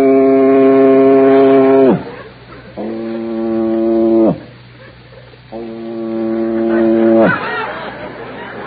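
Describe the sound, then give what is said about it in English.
Three long, loud foghorn blasts, each a steady droning tone that sags downward as it ends, separated by short pauses filled with faint background murmur. “So that's a foghorn.”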